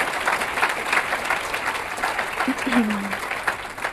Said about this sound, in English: So if we could, I just want to give him a round of applause and just thank him.